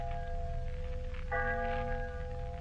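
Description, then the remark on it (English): A church bell tolls slowly for the death of Miser Stevens, one ringing stroke fading as another strikes partway through, its deep humming overtones lingering over a low background rumble. No voices. “The church bell's tolling for Miser Stevens.”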